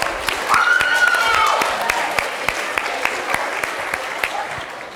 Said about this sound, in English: There's one here. Will you volunteer? Yeah. Can we have a round of applause, please?